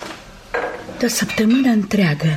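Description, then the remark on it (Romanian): Glass clinks and clatters against glass, like empty bottles and tumblers knocking together, in a short burst of bright taps. A voice speaks over the clinking for most of it. “Se pahare, sticle goale.”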